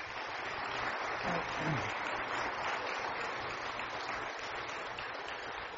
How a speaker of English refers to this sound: Rosewood Church, our graduating high school class of 2018. Would you give them a round of applause?